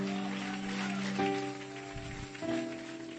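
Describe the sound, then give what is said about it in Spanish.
A crowd claps steadily in a dense, rain-like wash of applause for the Lord, while sustained keyboard chords sound underneath and shift pitch a couple of times. “Otro aplauso. Fuerte el aplauso.”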